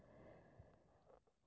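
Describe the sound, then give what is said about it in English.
Quiet, steady breathing through the nose: a soft, airy hiss with a faint snuffly catch partway through and a gentle rise in breath noise toward the end. No one speaks. “Yep, just keep breathing through the nose.”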